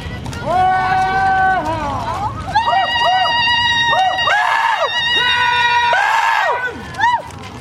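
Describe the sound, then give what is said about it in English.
A large crowd of marchers chants together in loud, rhythmic unison, calling for justice as they march down a main highway on the Blackfeet Reservation, blocking traffic, with two teenage girls on horseback at the head, repeating short sustained phrases over and over with a steady outdoor murmur underneath. “a large crowd calls for justice for Ashley Loring as they march down a main highway blocking traffic”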